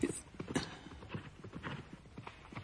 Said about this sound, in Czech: Slyšíte? Někdo sem pádí nízkou ostřicí a křovinou, jako by toho koně s prominutím ukradl.